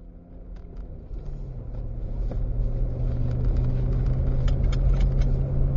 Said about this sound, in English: So please bear with the car noise.